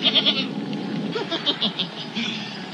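A goat bleats in a run of quavering, nasal calls, fairly loud, the wavering cries pulsing one after another across a couple of seconds with no talking.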